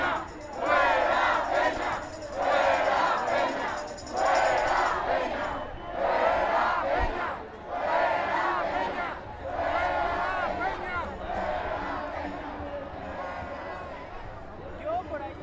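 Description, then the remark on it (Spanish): A large crowd of protest marchers, trying to make their way toward the Zócalo, shouts together in loud, rhythmic bursts, repeated chant-like surges rising and falling every second or two over a steady roar of many voices. “Ahí pueden escuchar los gritos.”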